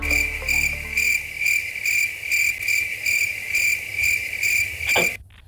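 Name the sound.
cricket chirping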